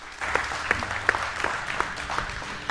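A church audience claps for Jesus in a steady, dense burst of hand clapping, many sharp overlapping claps forming a sustained applause with no talking.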